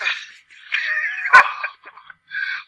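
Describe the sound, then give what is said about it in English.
A dog whimpers while being aggressively petted by a child, in a string of high, whiny bursts, with one sharp yelp partway through, then a few shorter whines after a brief pause. Fairly loud, with no talking. “I looked over and I happened to see my daughter aggressively petting the dog.”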